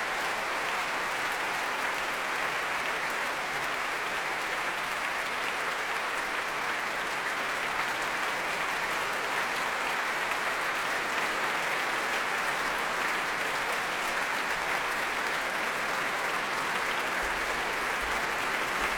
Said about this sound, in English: And with Vladimir Yurovsky, it's always a meeting of minds, she says, as they take the applause jointly.